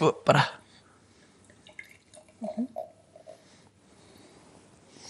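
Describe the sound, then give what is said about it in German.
Senso Black Label Sparkling wine is poured into a glass, opening with a loud, splashy burst and then a soft, trickling fizz. Quiet voices murmur faintly in the background. “Darf ich dir einschenken?”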